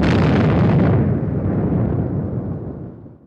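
A loud, sustained roar of controlled demolition explosions as the King Dome stadium dome collapses on a Sunday morning in March, blasts taking out the dome in six pie-shaped slices in sequence and pulling it inward; a dense rumbling blast loses its crackle and fades into a deep, receding rumble. No voices.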